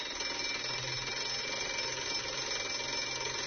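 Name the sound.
bell ringing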